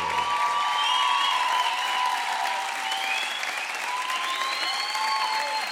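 An audience applauds a band at its first live performance in its home town, a dense wash of clapping that holds at an even level for several seconds, with a few scattered whistles rising above it.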